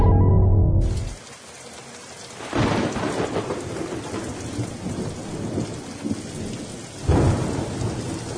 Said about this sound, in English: Wow, listen to that thunder.